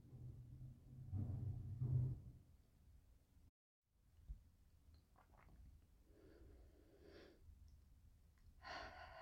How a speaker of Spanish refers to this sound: Vas a repetir este tipo de respiración 3 veces más, inhalando muy lentamente por la nariz y exhalando de la forma más lenta y pausada que puedas por la boca.